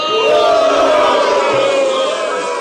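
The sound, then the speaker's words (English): A loud, steady roar of crowd cheering that holds for a few seconds, a dense wash of many voices with a few shouted tones rising above it, easing slightly toward the end. “The crowd would go.”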